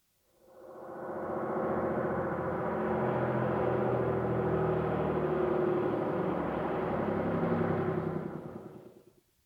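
A bus engine hums and rumbles steadily for several seconds, fading in at the start and dying away at the end, with no voices over it.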